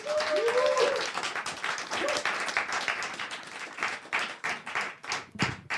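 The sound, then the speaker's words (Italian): Sustained applause from an audience as a guest is called onto the stage, dense rapid clapping throughout with a few whoops or cheers at the start, fading into scattered individual claps near the end. “Quindi io chiamo sul palco con un applauso fortissimo”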